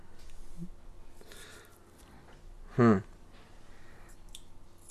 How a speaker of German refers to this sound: Das war ein Martini, den ich mir gerade geöffnet habe.